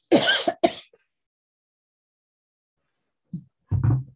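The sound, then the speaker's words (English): A person speaking in a webinar coughs and clears their throat in two short bursts, then after a pause of silence makes a couple more throat-clearing sounds. “So hang on a sec, I got a little cough.”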